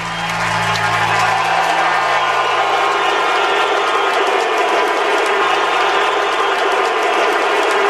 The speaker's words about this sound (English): A standing ovation for the great Joel Quenneville, former Blackhawks head coach. And we'll just let you listen.